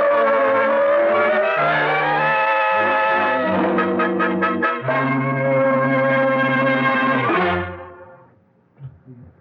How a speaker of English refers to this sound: Cribbit, those cars! What the... They're coming this way. Jump quick, they'll hit you!